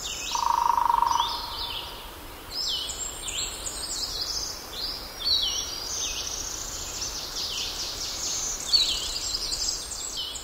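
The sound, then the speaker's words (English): Warblers and vireos sing in a steady chorus of high, rapid trilling phrases repeating one after another, with a low hum underneath and a brief lower whistled note at the start, in an old-growth hardwood forest in North Carolina where woodpeckers also drum; recorded by Gordon Hempton. “To an old-growth hardwood forest in North Carolina, where warblers and vireos sing and woodpeckers drum.”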